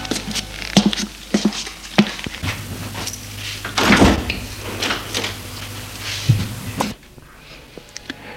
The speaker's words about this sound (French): La porte s'est ouverte.